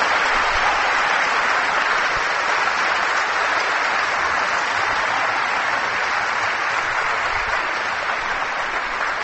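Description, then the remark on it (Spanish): Sustained applause from a large crowd during a sermon, in response to a call for applause for the risen Jesus, a dense, steady wash of clapping that holds at an even, fairly loud level for about nine seconds without voices. “La victoria definitiva está únicamente en la carne bendita y gloriosa de Jesús resucitado, para el que yo pido un aplauso en este momento.”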